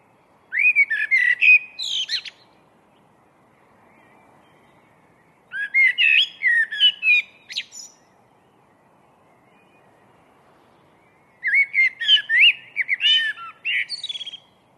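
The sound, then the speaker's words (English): A blackbird sings out of the chilled pre-dawn darkness, three rich, fluting phrases separated by pauses, each ending in higher twittering notes, clear against a quiet, still background. “This blackbird was singing out of the chilled pre-dawn darkness.”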